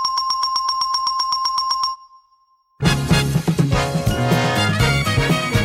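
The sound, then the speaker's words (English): The correct-answer doorbell chime from the TV game show The Price is Right, a doorbell picked after testing many at a hardware store, rings in a quick run of about a dozen evenly spaced high dings, stops for a short moment of silence, then loud, busy music kicks in. “And for the correct answers, Ed went to a hardware store and tested a bunch of different doorbells before recording the perfect option.”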